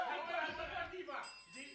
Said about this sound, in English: Ring the bell.